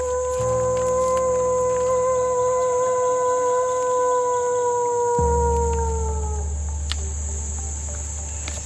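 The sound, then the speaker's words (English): Several long, drawn-out wolf-like howls from people trying to get real wolves to join in rise and fall together, overlapping in a mournful chorus, while crickets chirp steadily in the background of a quiet night. “Honestly, they sounded super wolf-like. They were trying to get the actual wolves to join in.”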